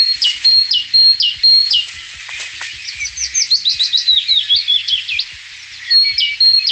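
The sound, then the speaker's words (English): Birdsong recorded on a morning walk, with no talking: a bright, repetitive two-note great tit song at the start and again at the end, framing a softer, descending willow warbler phrase in the middle. “For the first one is great tit, and then the one in the middle that's quite different is a willow warbler, and then you can hear the great tit again.”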